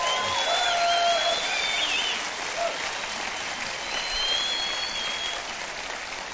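A large audience claps steadily and loudly for several seconds to welcome about 300 radio stations around America listening in, a dense, continuous wash of applause with a few faint whistles rising above it before it gradually eases.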